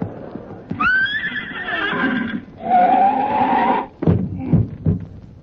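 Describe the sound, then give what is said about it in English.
In a Skelton Scrapbook of Satire comedy sketch, the horse of the cowboy Deadeye from Texas lets out a loud whinny. Its pitch rises, then wavers through a long, shuddering neigh, followed by a few snorting breaths and faint hoof sounds at the end. “Come on, horse, boy!”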